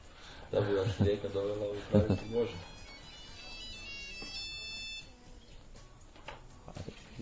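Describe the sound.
Someone speaks briefly, then a high, electronic mobile phone ringtone plays a bright beeping melody for a couple of seconds before cutting off, with faint background murmur underneath.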